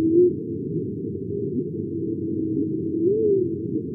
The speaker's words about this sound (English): The oceans have their natural noise, and that's what we would hear. And here's one of those sounds, the songs of the humpback whale.